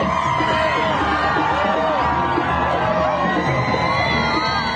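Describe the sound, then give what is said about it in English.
A large crowd along the roads leading to the Ram military base in Israel cheers a convoy of hostages released by Hamas, shouting continuously, high excited voices and whoops rising and falling over a dense, steady roar of many people. “A convoy greeted by happy crowds along the roads leading to the Ram military base for a reunion with families.”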